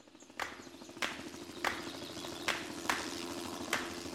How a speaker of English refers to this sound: And that was the commander in his helicopter just coming in low right over the canopy. The helicopter landed. This officer jumped out. Blades are still spinning.